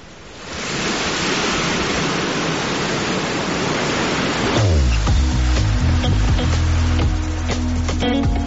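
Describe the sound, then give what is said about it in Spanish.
A steady, loud rush of surf from the nearby sea in Alicante washes close by without pause, and about halfway through a sustained musical tone swells in on top of the waves. “Con ese sonido de ese mar cercano que tienes en Alicante, te doy las gracias por haber estado hoy con nosotros.”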